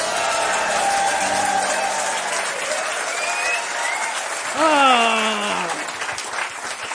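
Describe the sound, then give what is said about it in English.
A crowd applauds steadily for about seven seconds as comedian Andrew Lawrence is introduced, dense clapping filling the whole stretch, with a loud sliding whoop rising above it partway through before the clapping carries on. “And good, yes, lovely applause.”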